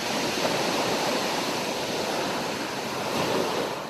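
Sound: waves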